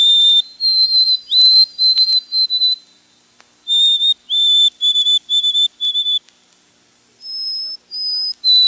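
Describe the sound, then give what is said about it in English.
A white-throated sparrow whistles its song of clear, pure, sustained notes, heard twice: first a run of steady tones, then evenly repeated notes stepping upward. It sounds bright, with no voices. “The white-throated sparrow got one vote.”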